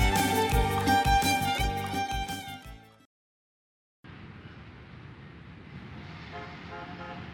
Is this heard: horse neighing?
no